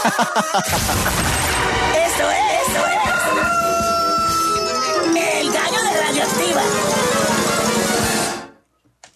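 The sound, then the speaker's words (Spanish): The rooster of the Radioactiva radio station crows within a loud, dense, layered burst of sound effects and voices, lasting about eight seconds before cutting off abruptly into silence. “Aquí está el gallo de Radioactiva”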